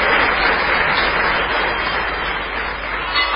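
A crowd applauds steadily, a dense, continuous patter of many hands clapping at an even loudness with no voices standing out.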